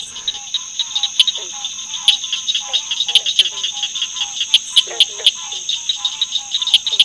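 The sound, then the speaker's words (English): Rapid metallic clicking notes of a southern cricket frog repeat in quick series of 5 to 10 notes at a fairly even pace, sharp, over a steady high insect-like drone with no voices. “It sounds like a series of 5 to 10 metallic clicking notes.”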